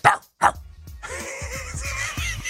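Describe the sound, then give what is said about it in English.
A man's voice lets out two quick, punchy barks in imitation of a rapper's trademark dog bark, then a dense, steady noisy wash with soft rhythmic thumps takes over as the rapper's song plays. “Is he doing …? Yeah, that's why he's barking.”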